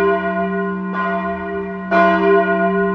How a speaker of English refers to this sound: The bell began to ring. Its sound grew louder and louder. It rang so loudly through the castle that cups and saucers broke and the glass in the windows cracked. Hour after hour, the bell rang.